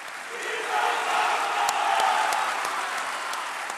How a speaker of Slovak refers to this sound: Hneď po vstupe svätého otca spustili kňazi, ktorých viedol vikár svätého otca pre rímsku diecézu kardinál Agostino Valini, dlhotrvajúci potlesk